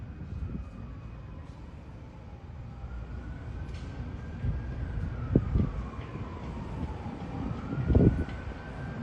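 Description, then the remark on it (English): An ambulance siren wails in slow rising and falling sweeps over a steady rumble of outdoor background noise with a few sharp knocks. “Damn ambulance. Sirens drive me nuts.”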